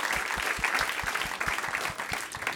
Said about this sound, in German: Und dann einen großen Applaus für unseren Hund. Unbedingt.